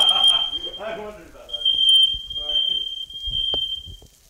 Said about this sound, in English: Real smoky in here. After opening all the windows and waving a dish towel over the alarm